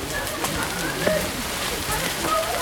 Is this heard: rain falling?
yes